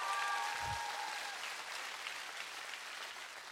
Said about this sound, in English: And all of God's people said, come on, all of God's people said, if you love Jesus, one more time, give him a big round of applause tonight.